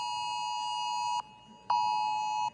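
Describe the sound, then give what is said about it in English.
A phone alert beeps loudly in two long, steady electronic tones, each lasting over a second, separated by a brief pause, with no talking. “Every phone in here.”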